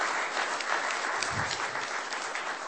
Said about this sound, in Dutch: Dank u wel. Gefeliciteerd met uw installatie. Daar hoort een applaus bij.